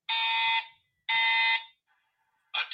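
A fire alarm blares in a stadium, sounding three loud, harsh, buzzy honks spaced about a second apart, the last one cut short. No one speaks.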